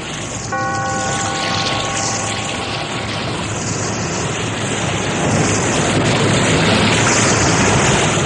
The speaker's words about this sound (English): Be here in this lonely cave by the restless sea once again next time for another immortal tale in The Weird Circle.